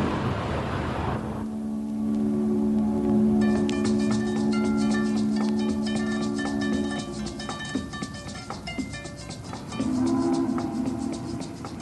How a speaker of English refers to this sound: And that night, Riverside Way, I heard this individualist pour out his music on the weird instruments he makes. And the background of riverboats on the foggy Hudson.